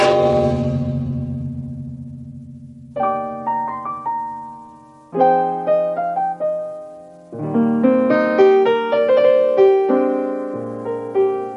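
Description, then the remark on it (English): A single hard strike on an Assyrian gong crashes out and rings down over about three seconds, then a run of bright, sustained tonal notes and chords follows with sharp, regular attacks. “Then the murderer gives a terrific swipe to the Assyrian gong like this.”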